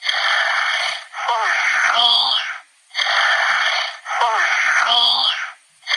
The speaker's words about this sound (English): It's like honking like a goose. I know. People are like, it's swearing. Like it's supposed to say like "fuck off," but it just sounds like it's going honk honk.